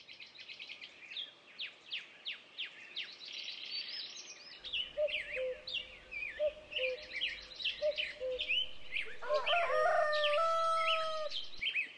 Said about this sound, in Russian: Как милый петушок, поешь ты громко, важно.